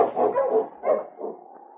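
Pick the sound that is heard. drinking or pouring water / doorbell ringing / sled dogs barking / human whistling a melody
sled dogs barking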